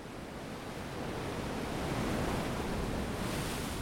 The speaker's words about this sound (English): It is a poor substitute, we've learned, for the real thing. Ocean waves.